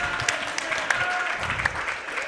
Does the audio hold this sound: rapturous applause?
yes